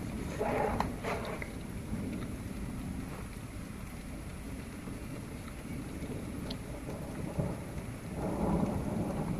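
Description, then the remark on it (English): Steady rain pours down in a dense, continuous hiss, with a deep low rumble underneath and a few louder swells. No one speaks. “The rain slowed down almost enough to go outside.”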